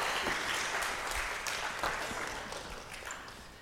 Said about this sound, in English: So let's give this body a big clap and a big hand. Thanks so much.